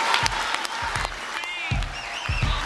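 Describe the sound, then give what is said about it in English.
A large crowd at a US political campaign rally with two candidates applauds steadily, with dense clapping, scattered whistles and cheers, and a few low thumps rising through the din. “The crowd really responded today.”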